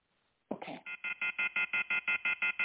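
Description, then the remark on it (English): After a brief clatter, a loud electronic telephone tone pulses rapidly and evenly, about a dozen sharp beeps in quick succession, with no talking. “Would someone please hang that phone up?”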